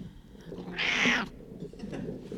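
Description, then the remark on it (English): A cat lets out a single clear, loud meow, with no one talking. Faint room noise fills the moments before and after the call. “We got a couple meows on the recording.”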